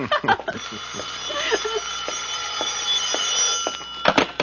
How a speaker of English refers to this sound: your phone is ringing. I've got my hands in this. Answer it for me, will you,